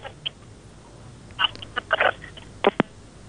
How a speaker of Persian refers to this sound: خب تماس اینا قطع شد.